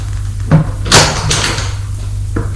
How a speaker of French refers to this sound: la porte s'est ouverte et apparaît l'oncle avec le sourire.